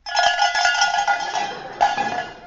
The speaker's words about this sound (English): Far away in the distance... we hear the tinkle of the bells.